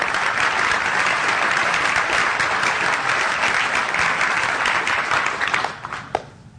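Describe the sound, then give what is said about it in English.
A crowd claps steadily in dense, loud applause that holds for several seconds, then thins out and fades, with a few final scattered claps at the end. “Can we give these people a round of applause?”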